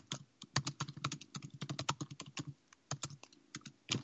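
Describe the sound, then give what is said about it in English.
Rapid typing on a computer keyboard while writing an email: a run of sharp, irregular key clicks with a few brief pauses, fairly quiet and heard on its own without any voices. “Sending him an email and looking here.”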